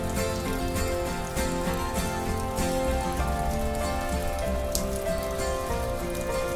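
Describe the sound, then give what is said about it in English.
Steady rain falls continuously in Florida, a dense, even hiss of drops spattering on surfaces, with a few sharper patters standing out; no voices, just the constant wash of rainfall. “But I love the sound of the rain.”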